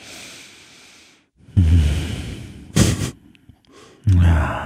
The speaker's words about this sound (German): Und jetzt nochmal meditieren. Ruhig. Ja. Einfach mal ein bisschen schweigen. Und nur atmen.